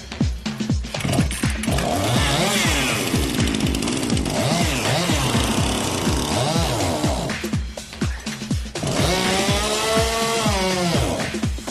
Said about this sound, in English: Will their chainsaw have enough pulling power?